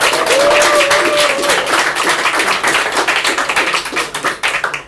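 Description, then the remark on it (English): An audience claps steadily for a performer after an experimental act, the dense patter of many hands building before gradually thinning out toward the end, with a brief whistle near the start. “Actually, yeah, just for the experimental nature of that, give him another clap.”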